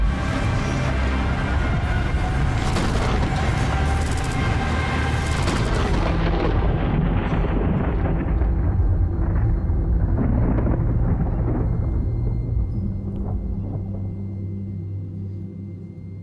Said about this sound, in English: Like the sound of loud thunder.